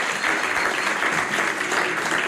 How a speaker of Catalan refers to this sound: Això mateix, aplaudiu.